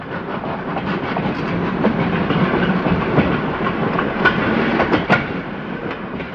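The Polar Express train rolls steadily north along the tracks, a continuous rumbling roar with faint rhythmic clacks and a few brief sharp metallic clicks near the end, without any voices.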